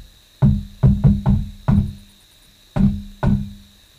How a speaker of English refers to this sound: And whilst they were having a little argument, there was a knock on the door like this.